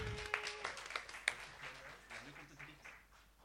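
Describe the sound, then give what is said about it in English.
An audience applauds themselves, with dense overlapping claps and a few sharp whistles rising above them, the clapping thinning out gradually toward the end. “Applause for yourself.”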